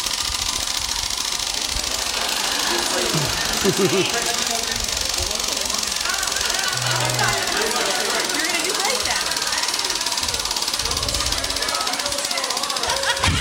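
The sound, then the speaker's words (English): A spinning prize wheel clicks in a fast, steady rattle of ticks that carries on for the whole stretch, with voices murmuring underneath. “The wheel needs new brakes.”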